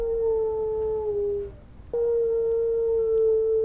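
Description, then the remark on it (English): Wind whistles through a house window, as it does every day at 4 p.m., in a steady, hollow, flute-like tone that dips slightly, fades out, then returns abruptly and holds, with a low rumble underneath. “the wind that whistles into her window every day at 4 p.m.”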